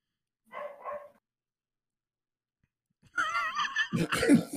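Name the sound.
dog barking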